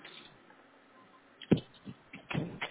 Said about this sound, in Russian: Ребята, у нас опять заклинила дверь, ее не до конца закрыли.